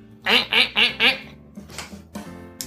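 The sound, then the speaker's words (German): A duck quacks four times in a quick, even rhythm, loud, followed by softer, indistinct sounds and a faint murmur of voices. “Das war eine Ente.”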